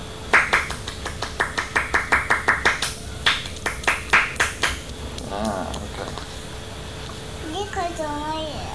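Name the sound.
hands clapping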